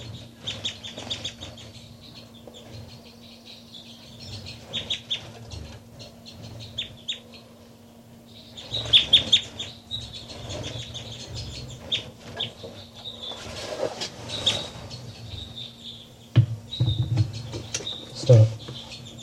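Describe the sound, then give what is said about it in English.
Bird number 385 flutters around, giving soft, high calls that chirp on and off over a low steady hum, with bursts of fluttering wing noise and scattered clucking sounds. Nobody speaks. “That's 385 fluttering around. 385 there. Very soft.”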